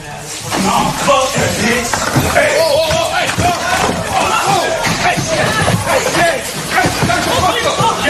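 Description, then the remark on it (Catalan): A chaotic scuffle in a Las Vegas courtroom as a man attacks a judge during her sentencing, pulling her from her chair while security tries to restrain him: several people shout and yell over one another while heavy thumps and slams break through, loud, sustained for the whole stretch. “Tal com podem sentir, l'home es llança sobre la jutgessa, la tira de la cadira i comença a agredir-la.”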